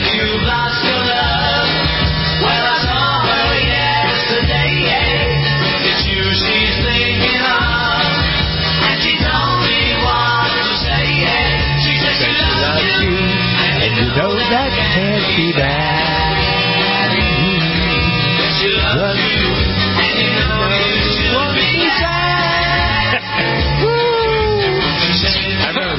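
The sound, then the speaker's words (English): An upbeat 1960s pop song, a 1964 chart hit that reached number one, plays loud and continuous for the whole stretch, with driving drums and guitars and a bright, slightly thin vintage sound. “This is, crank this up. …. Yeah. Yeah. In your car, turn the radio way up.”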